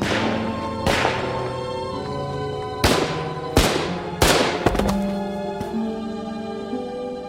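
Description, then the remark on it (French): Five sharp gunshots crack out at irregular intervals, loud, over a steady sustained musical drone with no talking. The shots are fired inside the office of secretary Ernst von Rath at the German embassy in Paris, around 9 a.m. on 7 November 1938. “Ce matin-là, à Paris, à l'ambassade d'Allemagne, vers 9h du matin, 5 coups de feu claquent à l'intérieur du bureau du secrétaire Ernst von Rath.”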